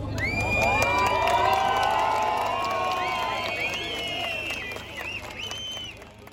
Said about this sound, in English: Erdogan came out onto the balcony of the ruling Justice and Development Party headquarters in Ankara, greeted by a crowd of probably a few thousand people who were chanting, who were singing.